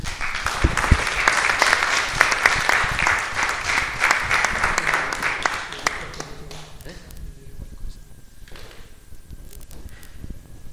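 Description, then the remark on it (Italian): An audience at a town council meeting claps for several seconds to welcome a new councillor, a dense burst of many hands that thins out and fades around the midpoint, leaving quiet room noise with scattered faint taps and shuffles. “Io pregherei un applauso per...”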